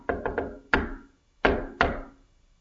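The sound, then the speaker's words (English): Knocking on the door of a house: three quick raps, then three slower, heavier knocks with short pauses between, each with a resonant wooden thump. Fairly loud, with no voices. “I get to the house, and I knock on the door.”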